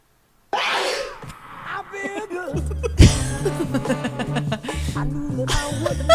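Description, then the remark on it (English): A sharp sneeze, mixed by a listener into a funky groove, with a thumping bass line and punchy beat kicking in after a couple of seconds, the sneeze sample repeating over the music. “We're going to have to play it again so we can hear the sneeze again.”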